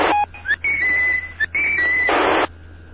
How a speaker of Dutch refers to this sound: Hartstikke leuk fluitje. Ja. Klinkt een beetje als mijn kanarie.